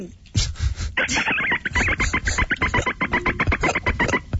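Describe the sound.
A caller on a radio show imitates a dolphin with a loud, rapid run of high-pitched chattering clicks lasting about three seconds, after a short breathy vocal start.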